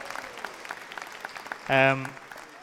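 An audience applauds with a steady patter of many hands clapping. Partway through, a loud, sustained tonal cheer or whoop rises briefly above the clapping before the applause continues.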